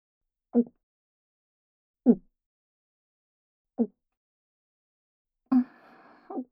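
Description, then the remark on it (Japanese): Someone chugs an alcoholic drink in one go after a toast: three separate, evenly spaced gulping swallows, fairly quiet, followed by a longer, satisfied voiced exhale once the drink is done. “そんなに一気飲みして大丈夫か？”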